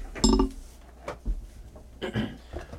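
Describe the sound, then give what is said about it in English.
Dice rolled during a tabletop role-playing game clatter and tumble in a dice tray: a bright burst of rattling clicks at the start, then a few scattered knocks and a second, smaller tumble before settling. “Could you pass me the dice tray, please? Dice.”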